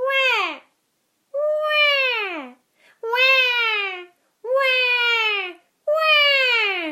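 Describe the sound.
A voice imitates a crying baby as a vocal exercise to reach the resonance spaces at the front of the face: five loud wailing cries, each about a second long with a bright, strained tone that sags in pitch, separated by short pauses.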